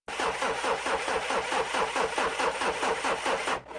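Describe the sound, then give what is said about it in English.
A car engine cranks over and over in a steady, rapid rhythm without ever catching, loud, then the cranking cuts off near the end with no voices present. “Oh no, the car won't start again.”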